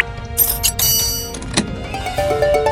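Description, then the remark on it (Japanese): A sturdy-looking heavy mechanical door grinds open in a video game, a sustained rumbling scrape with bright clanking accents and a rising tonal whine toward the end, no voices. “頑丈そうな扉だね。”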